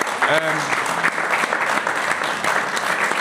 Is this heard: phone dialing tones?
no